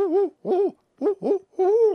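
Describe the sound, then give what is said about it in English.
An adult barred owl hoots the rhythmic "who cooks for you" call: five clear, resonant notes in quick sequence, the last one drawn out and sliding, heard alone with no talking. “That is probably the most commonly heard owl in Wisconsin.”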